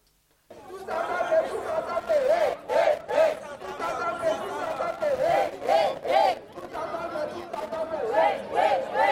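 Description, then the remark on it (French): A large crowd of protesters at a street demonstration chants together in rhythmic, repeated phrases, voices rising and falling in loud collective bursts with shouting and general crowd noise underneath, continuous throughout. “qui sont descendus dans la rue le 11 septembre et le 2 octobre pour manifester”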